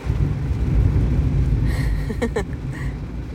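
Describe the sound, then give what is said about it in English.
Heavy storm rain pounds steadily on a car in a workplace parking lot, heard from inside the car, a dense, continuous roar with deep low rumble, broken by a few brief sharper taps and squeaks toward the end. “I'm not really sure if you can hear, but it's fucking pouring, and I'm stuck in my car. I hate driving in storms.”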